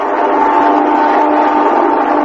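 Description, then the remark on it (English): A steady, loud engine roar with a humming tonal whine, holding even for a couple of seconds, as the midnight plane flies over a building. No one speaks. “That's the midnight plane now. I hear it every night that flies over the building where I work.”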